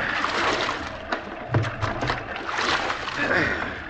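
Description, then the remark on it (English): Oars dip and pull through water in a few uneven strokes as a small boat is rowed at sea, with sloshing and small splashes against a steady wash of sea noise, moderately loud. “We can both do it. Take the right oar,”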